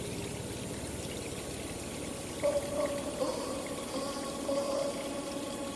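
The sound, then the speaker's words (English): Hands dip into cold water from a natural fountain in a cave and splash it onto a face, over a steady running, pouring wash, with a few brief sloshing bursts in the second half. No voices. “The natural fountain that sat against the edge of the cave twinkled as Mark got closer and dipped his hands into the cold water before splashing it up and onto his face, washing away the dust and sweat of a long day's work.”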